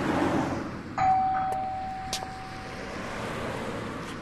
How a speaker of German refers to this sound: Gut, dann klingel ich mal